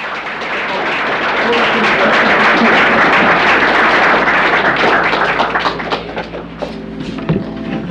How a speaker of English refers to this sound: Applause. A sign of approval, an act of support, a cultural indicator worth listening to.